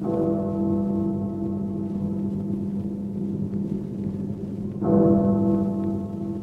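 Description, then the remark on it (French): A deep, resonant bell tolls midnight slowly in England, each stroke ringing out and lingering before the next, over a steady wash of heavy rain. No one speaks. “Minuit sonne dans le ciel d'Angleterre tout alourdi de pluie.”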